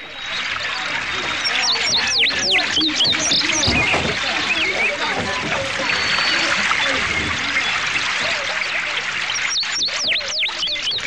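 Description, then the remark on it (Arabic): A busy chorus of many birds flying in the sky chirps and tweets continuously outdoors over a scenic landscape, with quick overlapping calls over a steady, full background wash, louder bursts of chirping at the start and end. “انظر يا أبي إلى الطيور التي تحلق هناك في السماء، يا الله ما أكثرها وما أجملها.”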